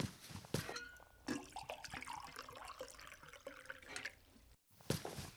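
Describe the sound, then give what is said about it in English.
Water splashes and pours steadily into a bowl meant for the marigolds on an ofrenda, a bubbly rushing stream with shifting pitch, pausing briefly near the end before resuming. No voices. “get a bowl of water for the ofrenda for the marigolds.”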